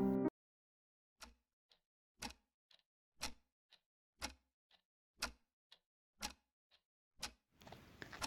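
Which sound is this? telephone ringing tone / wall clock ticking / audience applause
wall clock ticking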